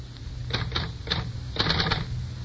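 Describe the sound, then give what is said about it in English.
Keys of a portable typewriter, with a sheet of paper inserted and held on a lap to deaden noise and vibration, clack in short irregular bursts, a few separate strikes followed by a quick cluster, moderately loud over a low steady hum. “You insert a sheet of paper into the portable. Put it in your lap to deaden the noise and vibrations.”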